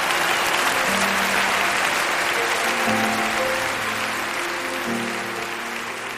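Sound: thunderous applause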